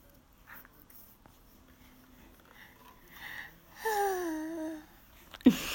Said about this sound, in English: She yawns.